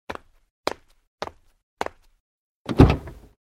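Four sharp clicks or latch sounds spaced evenly, then a louder, fuller thud as the passenger door of a silver compact automatic car in bay 39 swings shut, in Japan. No one speaks.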